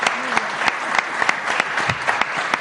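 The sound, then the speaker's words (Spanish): Audience applause: a steady wash of many hands clapping, dense and fairly loud, with sharper individual claps standing out irregularly throughout. “Un aplauso para...”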